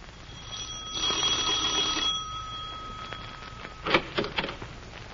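A doorbell rings in one long, steady electric trill lasting about three seconds, followed by a few short clunks and thuds, like a door being handled.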